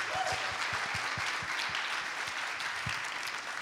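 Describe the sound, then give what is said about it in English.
A crowd applauds Jesse Marsh, head coach of the Canadian men's national soccer team, as he is introduced on stage: many hands clapping at once in a dense, even wash of sound that holds at a fairly loud level throughout with no voices. “A round of applause for Jesse, please.”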